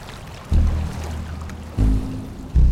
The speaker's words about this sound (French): Vous êtes en Lozère. Étang de Barandon, 1200 mètres d'altitude. Un vent tempétueux souffle.